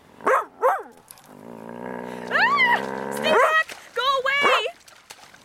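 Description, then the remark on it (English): A voice imitates a dog: two sharp barks, then a long rumbling growl that rises into a yelp, followed by a quick burst of excited barking, fairly loud. “Fortunately for Rusalka, she was able to slide back into the water before the dog trapped her on shore.”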